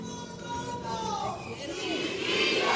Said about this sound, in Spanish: Esos gritos desde Gallinero, para estas leonas, para estas chulitas, que se encaminan ya a cantarnos esa tanda de cuplé.